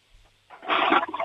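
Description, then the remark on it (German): A toilet flush starts with a short click, then swells into a loud, broad rushing of water that keeps surging to the end. No one speaks. “Ihr habt aber eine laute Klospülung, die ist sicher voll kräftig.”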